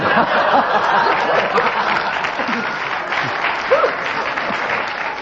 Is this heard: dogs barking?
no